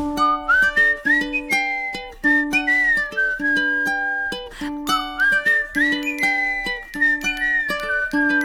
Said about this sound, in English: I whistle as I walk